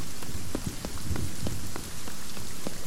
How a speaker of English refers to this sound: Okay, I'm almost to the western border of the cave. Now, if you listen to my footsteps, right now I'm walking on either rock or concrete. I'm going to walk forward until I get to stone.